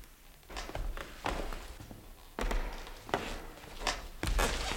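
Footsteps approach in a quiet, echoing, pitch-dark museum room at night, roughly six firm heel strikes at a steady walking pace, each growing a little louder and closer, with no voices.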